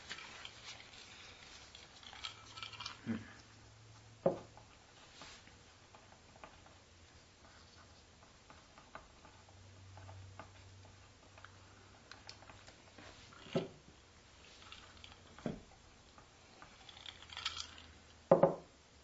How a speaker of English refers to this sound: Okay, now it's my turn to write with a pencil.